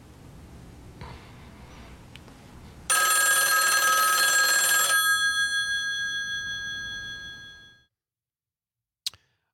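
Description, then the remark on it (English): A telephone rings once in a hotel room in a Coen brothers film scene with Woody Harrelson: a loud, bright metallic burst lasting about two seconds, its bell tone lingering and slowly fading before silence and a single faint click. A low murmur comes before it. “All right, so the ring happens about three more times, and then you just hear this huge gunshot.”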